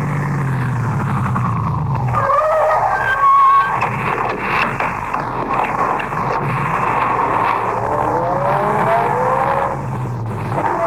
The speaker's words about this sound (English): I shall stop the car now and let you off.